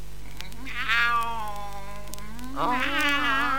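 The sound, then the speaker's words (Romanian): A cat gives two drawn-out, wavering meows, the first long and sliding downward, the second rising then falling, fairly loud with a faint steady hum beneath. “Da, nu mi-închipuiam că puteți lua chiar și chipul unei pisici.”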